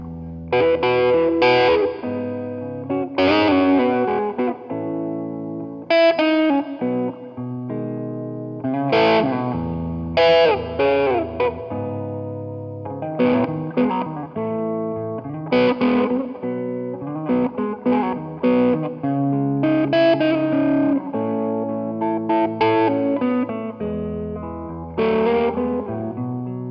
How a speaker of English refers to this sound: The Metal Muff with Top Boost from Electro-Harmonix. It's a really versatile pedal. It sounds good from the creamy lows to the screaming highs.